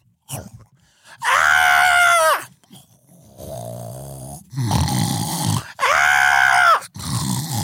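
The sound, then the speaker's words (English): A voice imitates screaming: three loud, drawn-out shrieks, alternating with lower, rasping groan- or snore-like sounds in between. “I will sleep through the screams.”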